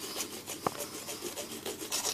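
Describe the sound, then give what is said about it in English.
Brisk scrubbing of a toothbrush against teeth, a quick rhythmic rasping back-and-forth that continues steadily throughout, with no voices. “It's just the sound of other people brushing their teeth.”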